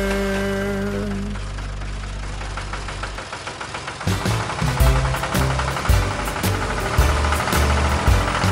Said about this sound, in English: What do you do? I'm a farmer. Everybody drive a big tractor.